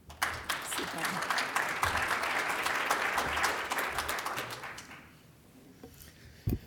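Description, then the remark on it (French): A crowd at a symposium in Québec applauds steadily for about five seconds to welcome a speaker, a dense wash of overlapping claps that fades out, followed by a quiet pause and a couple of faint thumps. “On l'applaudit.”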